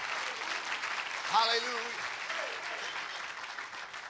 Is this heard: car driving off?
no